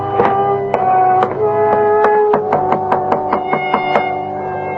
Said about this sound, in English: No one answered my knock.